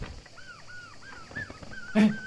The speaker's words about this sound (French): Les gars, vous entendez pas ? La mouette, elle s'est envolée.